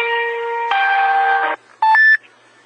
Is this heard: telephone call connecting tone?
yes